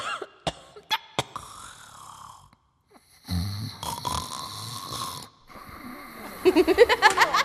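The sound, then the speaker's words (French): A human voice snores and groans without words: sharp breathy snorts at first, then a long rasping snore, ending in a rapid pulsing series of throaty moans, fairly loud. “Elle bâille, ronfle, gémit.”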